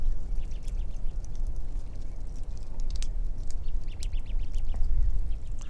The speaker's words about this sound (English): I'm standing under some pines full of crossbills. In this next recording, see if you can hear cones being pried open and the birds climbing around parrot-like among the cones. It's a little snap, crackle, and pop.